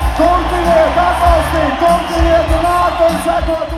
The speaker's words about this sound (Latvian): Jūsu aplausi un apsveikumi mūsu čempionam, Marim Briedim!